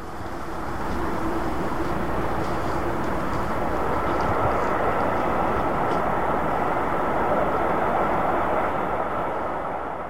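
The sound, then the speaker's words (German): An Interregio passenger train rumbles steadily along the rails, a dense, continuous roar of wheels and track noise that stays loud throughout, with faint high rattles on top and no voices. “Und so fahre ich mit gutem Gewissen Zug.”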